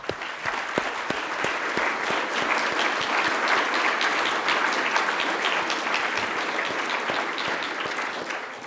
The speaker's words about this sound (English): Let's all give him a round of applause.